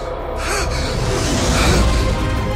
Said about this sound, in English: You know, it's kind of perfect that it ends with the gasping of air, because that's where we begin in this episode.